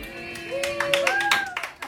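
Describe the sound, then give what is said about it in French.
A short burst of applause sound effect: many hands clapping in a quick, irregular patter, with a thin whistle-like tone rising above it, steady throughout. “Mais tabarnouche, on a un public!”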